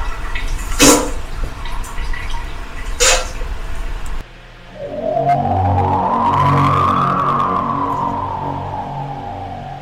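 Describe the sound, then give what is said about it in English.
A hiss of rushing water from a sound machine, with a couple of splashy bursts, gives way to a steady pour whose pitch slowly rises, like a vessel filling up. It is fairly loud, with no talking. “Simply hook up to child under six or psychopath and wait for the running water sound.”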